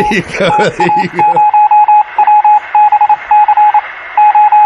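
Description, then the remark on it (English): Morse code beeping in a rapid run of short and long pulses on one steady high tone, loud, used as a news intro about nine seconds long. A voice briefly overlaps the first beeps. “No, I know what you want. You want Morse code.”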